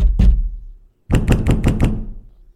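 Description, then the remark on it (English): Someone bangs on indestructible glass: one heavy thump, a second of quiet, then a quick run of about five loud, evenly spaced bangs with a sharp ringing edge. No one speaks. “There's no use banging on the glass. It's indestructible.”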